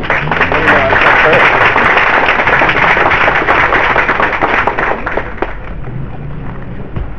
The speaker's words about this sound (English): please give my big round of applause.